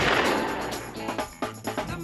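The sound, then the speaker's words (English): A loud gunshot in the intro of the Wall Street Shuffle radio show bursts out at the start and rings off in a long, fading echo, followed by a few sharper cracks and thuds over a tonal musical backing. “We got to get a bigger gauge caliber gun to do.”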